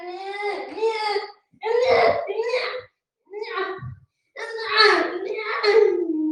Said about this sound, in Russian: Что ты плачешь? Мы же тебе по-хорошему. Не плачь, ты же хороший мальчик и большой уже.